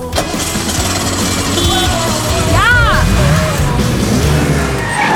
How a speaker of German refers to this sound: Aber so mitten auf der Straße konnte Sekis Wagen auch nicht stehen bleiben. Also rutschte Laura ans Steuer und versuchte den Motor zu starten.